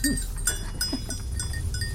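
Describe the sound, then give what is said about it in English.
A herd of goats moves about with bells clanking irregularly, a short bleat breaking through near the start over a steady low outdoor rumble. “It's just a herd of goats and bells.”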